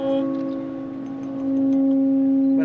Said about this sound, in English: A good bell is the bell which will ring well. As a symbolic object, it should be a bell where the decoration have a meaning. Et la cloche va chanter. Écoutez bien.